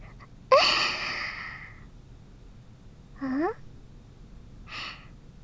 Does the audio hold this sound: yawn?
yes